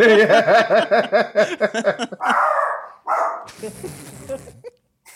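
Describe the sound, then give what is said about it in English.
A dog barks in a rapid, steady string of about eight sharp, loud barks, followed by a few breathy rushes of noise and a rougher burst of sound. “Take that bark to the skies.”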